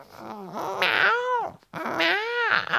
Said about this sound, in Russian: Кот сейчас же кинулся на быка, шерсть взъерошил, начал рвать мясо и зубами, и лапами, а сам мурчит, будто сердится.